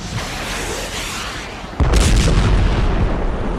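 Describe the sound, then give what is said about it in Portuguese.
A steady, noisy roar is abruptly broken by a loud blast as a rocket launcher fires at a helicopter, followed by a sustained rumbling boom as the rocket hits the helicopter's tail and it spins, loses altitude and falls among trees. “O foguete voou em direção ao helicóptero e atingiu a cauda, girando para todos os lados, perdendo a altitude e desaparecendo de vista quando caiu em meio às árvores.”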